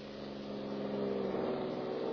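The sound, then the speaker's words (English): A police car's engine rumbles on Fifth Street, its steady, low motor hum easing as the car slows down, with no voices over it. “Police car is slowing, Perry.”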